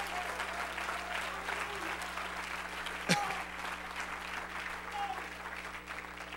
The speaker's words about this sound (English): Well, praise God. Let's clap our hands unto him and bless his name.